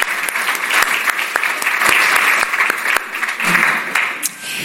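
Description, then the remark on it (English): A crowd applauds steadily for several seconds, a dense wash of many hands clapping at an even loudness that tapers slightly at the very end. “Yeah, another round of applause.”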